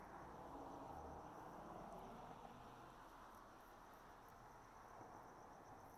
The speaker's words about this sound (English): I just thought I would let you hear some of the late evening sounds. I know yesterday it was just nothing but traffic and crickets, but now there seems to be more crickets.